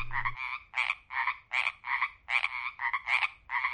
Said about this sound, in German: Aber das Konzert quakender Frösche sei ähnlich organisiert wie das eines Sinfonieorchesters oder einer Popgruppe?